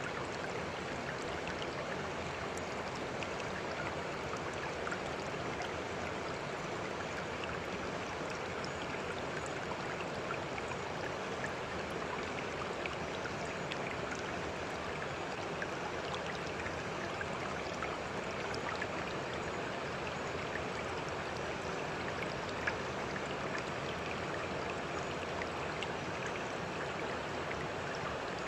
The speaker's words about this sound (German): Der Fluss fließt sehr schnell. Die Wellen bewegen sich schnell.